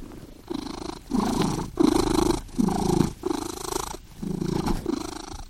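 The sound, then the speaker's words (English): A cat purrs steadily at 3 a.m., keeping its owner awake, the low rumble swelling and easing in regular breath-like pulses, about seven cycles with short gaps between, and no other sounds or voices. “Nicholas Dodman of Tufts University to find out what to do because my cat won't let me sleep.”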